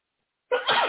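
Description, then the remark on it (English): A single sudden sneeze bursts out after half a second of silence, loud, with a sharp onset and a breathy, noisy tail. “Bless you.”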